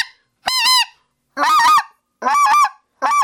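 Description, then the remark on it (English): Four loud, harmonic honks blown on a goose call in honker-calling style, the hand opening and closing over it, each about a third of a second long and spaced in a steady rhythm, with short silences between and no talking. “Guys will think of honker calling and open and close it.”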